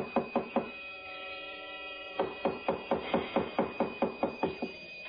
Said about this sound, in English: Oh, now, please. Don't batter down the door.